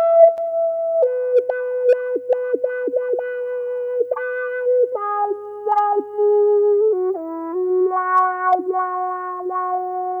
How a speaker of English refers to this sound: Using a wah-wah pedal.